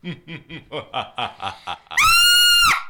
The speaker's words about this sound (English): What happened? Why were you screaming?